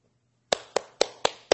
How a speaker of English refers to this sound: everyone applauded.